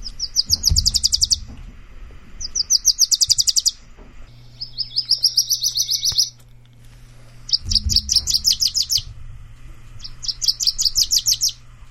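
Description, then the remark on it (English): A Wilson's Warbler sings five times, each song a quick, bright chatter of sharp chip notes lasting a second or two, separated by short pauses, with a faint low hum underneath. “help you identify the Wilson's Warbler”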